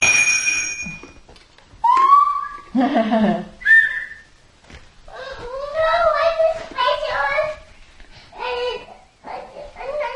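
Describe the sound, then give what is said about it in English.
A toy whistle blown several times in short, uneven bursts, some steady and shrill, others warbling and sliding in pitch, loud, with a child's babbling mixed in between blasts. “You want the whistle? It's going.”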